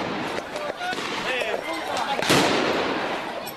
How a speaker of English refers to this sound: Officials are saying the gunmen holed up in a building near the Indian consulate in the northern Afghan city of Mazar-e-Sharif are continuing to exchange gunfire with Afghan security forces.